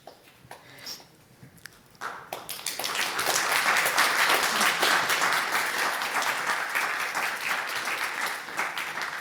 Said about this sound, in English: So thank you very much for this very interesting talk. Please, another warm welcome, a round of applause for the two.